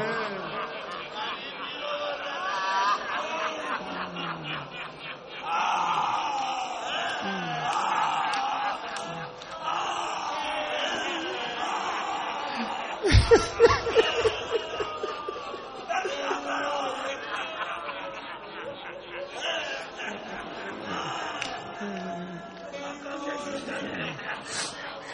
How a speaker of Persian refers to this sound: خوش به حالتون که برای ابی عبدالله گریه میکن. پیغمبر به زهرا گفت یه روزگاری میاد مرد و زن مثل داغ دیده برای حسینت گریه میکنن.